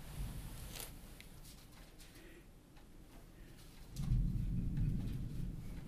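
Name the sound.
thunder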